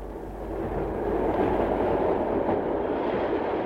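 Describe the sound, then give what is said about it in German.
The Zug der Erinnerung, a train carrying an exhibition from town to town, rolls steadily along the rails: a continuous low rumble with faint rattling that swells slightly after the first second and stays fairly loud throughout, with no voices. “Seitdem rollt der Zug der Erinnerung von Stadt zu Stadt.”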